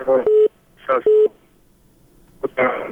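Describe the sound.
Two short, steady mid-pitched beeps of a telephone line tone after a listener's phone call into a call-in program drops, each joined by brief garbled voice bursts, then more muffled talk toward the end.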